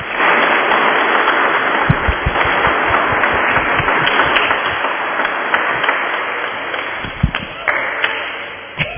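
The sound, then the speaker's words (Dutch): An audience applauds steadily to wish two people well, a dense wash of many hands clapping at an even, fairly loud level, with a few sharper individual claps standing out before it tapers slightly near the end. “Ik zou zeggen, geef ze een applaus en wens ze alle goeds toe.”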